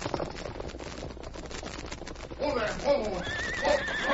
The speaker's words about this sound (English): If he sees us, he doesn't intend to stop. Perhaps he's unable to pull in his horse.